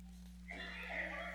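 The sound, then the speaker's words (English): A horse lets out a single high, drawn-out whinny that starts abruptly and carries to the end, over a steady low hum; no hoofbeats stand out. “As the horse bolted toward the castle, Emma wondered, how did he know my name?”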